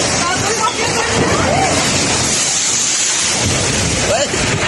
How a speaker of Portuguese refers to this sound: Imagens gravadas por populares mostram o momento exato em que a árvore desaba e atinge parte do muro do estabelecimento. Olha o vento aí. Olha o vento aí, mas... Olha o vento aí.